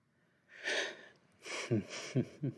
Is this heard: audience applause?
no